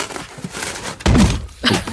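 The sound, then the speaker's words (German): A heavy, booming thump lands against a door around the middle as it is rammed in, followed by a second softer knock, with a faint rustling background in between; no voices. “rennt da die Tür ein.”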